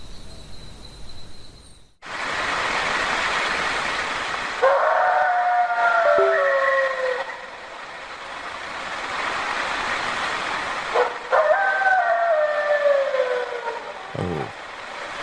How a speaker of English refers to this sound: So this is supposedly a dog, man. I got more to read. Hmm. So this is from the Cryptid Studies Institute. So it's on their YouTube page. It's a recording of a dog man howl outside of an RV.